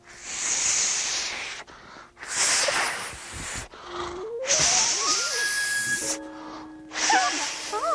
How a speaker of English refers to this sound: Well, be honest with you, I was trying to blow up this balloon and I just can't. It is large, don't you think?